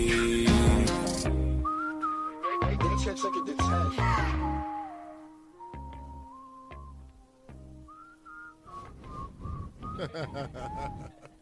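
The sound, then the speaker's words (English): A whistled melody glides and wavers above a song's beat, carried along over steady bass thumps and layered music, fairly prominent in the mix throughout. “Nah, I can't front that whistle when part is hard.”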